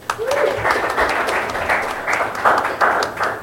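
An audience breaks into steady applause for the musician closing the night, a dense wash of many hands clapping that stays fairly loud throughout, with a brief whoop near the start.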